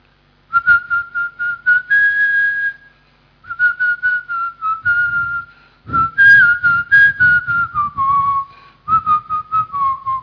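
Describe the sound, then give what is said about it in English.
A person whistles a song, clear piercing notes rising and falling in short phrases with brief pauses between them, no talking alongside. “You didn't say anything, but you whistled a song.”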